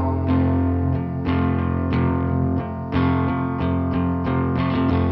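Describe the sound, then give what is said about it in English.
Loud, harsh distorted noise fills the whole stretch, a thick buzzing drone struck again in chord-like bursts about once a second, with no voices. “Some kind of static distractor.”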